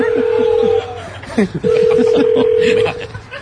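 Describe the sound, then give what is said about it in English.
A telephone ringback tone sounds twice as a phone is called, each a long steady hum separated by a short pause, loud, with faint talking and a brief clatter in the gap. “So that's what the ringer sounds like.”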